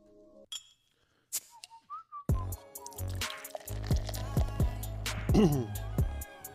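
A few short, high whistled notes, sliding slightly upward, sound on their own before loud music with heavy bass suddenly starts and fills the rest.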